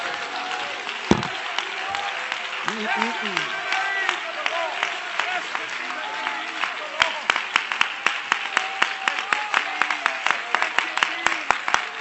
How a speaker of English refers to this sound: Would you clap your hands unto the Lord and shout unto God?